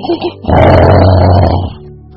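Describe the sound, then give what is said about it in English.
A voice imitates loud snoring: one long, rough, rumbling inhale-like snore lasting about a second, preceded by two short grunts and trailing off into a fainter breath. “terrible snoring.”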